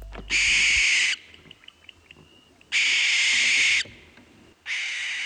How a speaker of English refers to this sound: I thought that the iconic and ghostly barn owl might be a good place to start this week. After all, in Irish, we know the barn owl as the Shkreko Greliga, or graveyard screecher, which is suitably spooky. You can probably hear why.